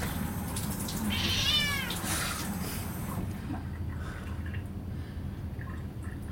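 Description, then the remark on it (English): A male cat lets out a single drawn-out, wavering meow over a steady low rumble of background noise that carries on after the call fades. “We need to give you a meow reduction.”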